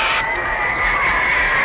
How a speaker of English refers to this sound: Ladies and gentlemen, the star of our show, how about a nice warm round of applause to welcome